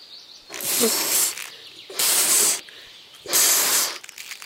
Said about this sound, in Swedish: Oj, vad du blåser ljudmonstret. Ska du inte skicka iväg ballongen snart?